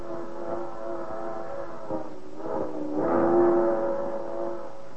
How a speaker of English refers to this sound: That's the whistle of a night freight, hauling a miscellaneous load of grimy boxcars, with a caboose rattling along at the end of a parade. That's locomotive number 7941, watched over by the blazing constellations in the night sky.